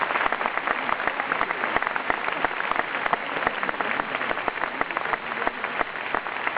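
An audience claps steadily, a dense crackle of many hands that stays at an even loudness for several seconds with no voices over it.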